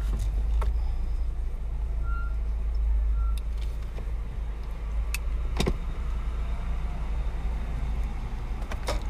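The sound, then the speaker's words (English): A large truck rumbles steadily down a residential street, its heavy low engine drone continuous throughout, with a few sharp clicks and rattles cutting through the noise. “This big ass fucking truck right here.”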